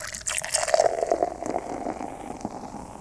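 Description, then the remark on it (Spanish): An ice-cold Curse Original beer pours steadily into a mug, a continuous gurgling splash with fizzing foam, building briefly then holding an even rush for about three seconds with no voices. “Imagínese que la está sirviendo en su tarro preferido.”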